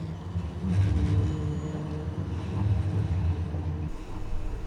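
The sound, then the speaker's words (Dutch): A line 3 tram rolls past with a loud, steady low rumble and a faint metallic creak from the wheels, lasting the whole few seconds before easing slightly at the end. “Kijk, nou, nu komt er een mooie tram voorbij. Een knerpende tram.”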